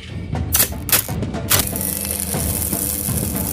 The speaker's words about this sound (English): Sparks flew as Pete bent over a workbench and hammered sheets of metal.